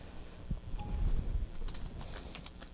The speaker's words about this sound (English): What'd you find? You find some keys? See, I found something that made noise, huh?